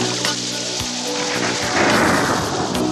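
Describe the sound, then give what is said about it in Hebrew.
Steady rain hisses throughout, with a low rumble of thunder swelling in the second half before easing slightly; no voices are present. “טיפות של מים על פנים נראות לי כמו דמעות, בכים למעלה עננים.”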